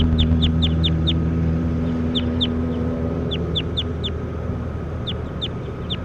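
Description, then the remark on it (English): Calls of a bird labelled bird 10, being recorded: bursts of short, high, sharp chirps in quick groups of two to five, separated by pauses, over a steady low rumbling background hum. No one speaks. “We're recording bird 10.”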